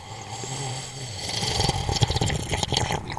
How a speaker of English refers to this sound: Go ahead and sip again, because I don't want to say.